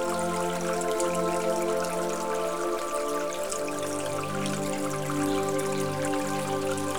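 Steady flowing river water runs continuously beneath a sustained, droning musical tone, the watery hiss soft and even throughout with no voices.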